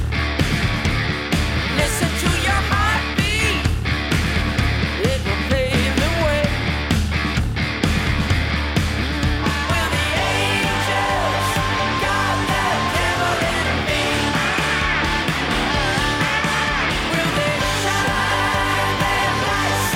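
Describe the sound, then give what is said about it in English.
Harsh screamed vocals ride on top of a loud, dense wall of distorted guitars and pounding drums, continuing steadily through the whole stretch of heavy music. “And then you have some nice screaming in there too.”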